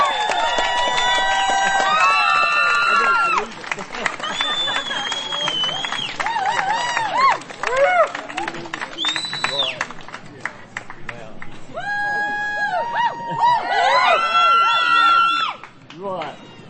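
A large audience claps steadily and loudly while people whoop, cheer and shout over it, the dense applause continuing unbroken throughout and swelling again toward the end.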